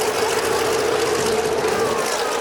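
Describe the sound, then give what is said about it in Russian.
An aircraft engine starts, churning into a steady, loud droning roar with a constant humming tone running through it, holding even throughout with no voices. “Так, заводится.”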